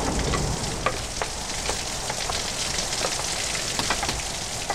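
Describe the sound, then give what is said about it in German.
Heavy rain pours down in a steady, dense hiss as storm gusts sweep through a street by a bus stop on Wilshire Boulevard, with scattered sharp patters of drops striking surfaces. No voices are heard. “Sturmböen fegten durch die Straße und trieben Bob weiter unter das Dach der Haltestelle zurück, wo eine junge Frau ebenfalls Schutz vor Wind und Regen suchte”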